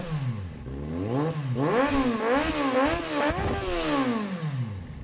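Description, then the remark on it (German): Rally car engines rev loudly and continuously, their pitch swooping up and down in repeated surges over a few seconds, dominant with no talking. “Motoren heulen ganz laut auf, wenn sie am Werk ist.”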